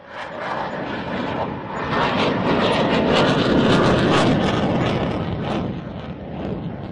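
A loud, continuous jet engine roar from an F-16 fighter jet flown by a Danish air force test pilot, heard while standing in front of it, swelling slightly in the middle and easing toward the end, with no voices.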